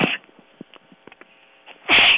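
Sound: sneeze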